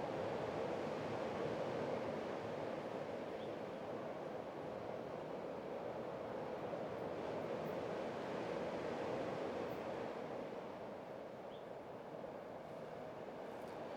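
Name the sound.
sea waves breaking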